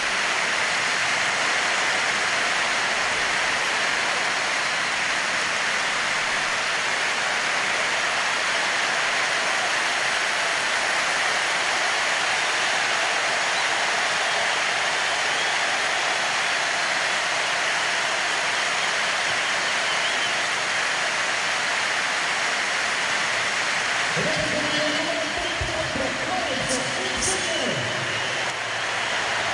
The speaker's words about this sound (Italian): E tanto c'è un cambio nel Napoli, esce il numero 7 Caglione, entra il numero 24 Lorenzo Insigne. Sentiamo l'applauso del San Paolo.